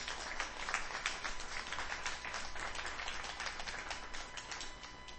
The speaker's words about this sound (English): Come on, let's give the Lord a clap offering in this house.